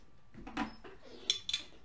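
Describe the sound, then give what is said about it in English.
A bottle cap is pried off a bottle of Lupulus Organicus beer (8.5% ABV) with a short metallic pop and hiss, followed by two quick, bright clinks of glass. The whole sound is quiet, with no talking. “Let's open it up.”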